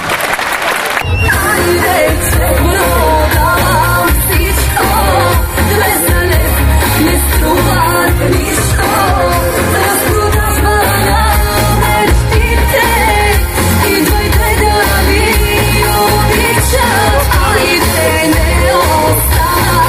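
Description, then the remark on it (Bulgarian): A concert audience applauds and cheers in a loud, continuous wash of clapping and shouting, while a steady thumping musical beat carries on underneath for the whole stretch. “Много силни аплодисменти”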